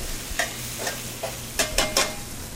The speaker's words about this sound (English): All right, so now shake off the extra water. I'm going to toss these in that nice sage butter.